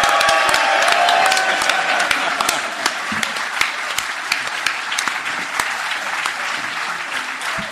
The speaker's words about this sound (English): It was a very warm round of applause. Thank you so much to the lovely audience here at the Leicester Square Theatre.